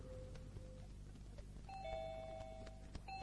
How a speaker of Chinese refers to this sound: 门铃声在晚上听起来更显得清脆。